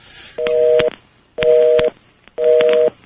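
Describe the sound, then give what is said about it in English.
A telephone number being redialed to re-establish a lost connection: three identical, evenly spaced two-note electronic tones, each about half a second long, with faint clicks and crackle on the line and no voices. “A telephone number is a telephone number, right?”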